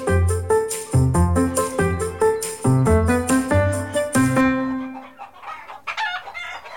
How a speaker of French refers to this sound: Au poulailler, c'est l'heure de la ponte. Sous le regard attendri de leur maman, les petites poules s'appliquent et se donnent beaucoup de mal.